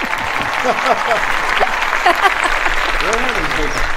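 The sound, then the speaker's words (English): Steady audience applause welcoming director Steve Carver to the Writer's Block, a dense crackle of many hands clapping, with voices calling out and talking over it throughout. “And I'll bet you anything nobody ever gave you the clap before.”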